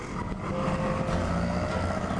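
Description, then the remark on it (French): A postman starts his motorcycle; the engine rumbles loudly, its note climbing into a rising whine as it revs and pulls away toward an oak-covered mountain at the end of a valley. No voices. “Le facteur démarre sa moto et se dirige vers la montagne aux chênes qui se dresse au bout de la vallée.”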